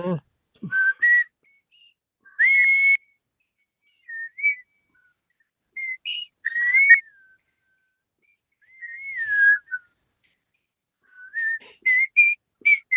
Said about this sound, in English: I forgot how to lip whistle. I have to tongue whistle now. Oh, I kind of did it. It's coming back. What's the theme song? Let's all whistle the theme song.